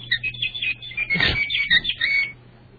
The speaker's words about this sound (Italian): Che sembra il cucù dell'orologio di mia nonna.